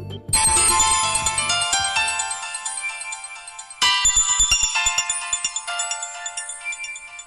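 A bright electronic phone ringtone for an incoming voice call on an Android device during a Skype call plays a rapid melodic pattern of tones, repeating in two loud bursts with no one speaking, clear.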